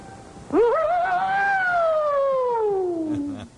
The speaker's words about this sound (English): We are now privileged to witness in demonstration of Japan's finest air raid siren.